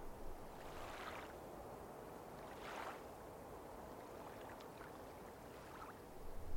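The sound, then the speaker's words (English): Soft, steady water noise with a few gentle swells rising and falling, the rhythmic lapping of gentle waves on serene water at night, quiet with no one speaking. “Listen to the rhythmic lapping of the waves and songs of the night.”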